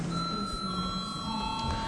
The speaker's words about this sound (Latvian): Lūdzu zvanu.